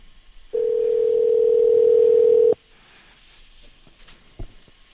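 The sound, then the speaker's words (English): A loud, steady electronic tone on a Skype call holds at one pitch for about two seconds as Bellator champion Ben Askren drops off the line, then cuts off abruptly, leaving faint line hiss and a brief click. “Oh, he just dropped off.”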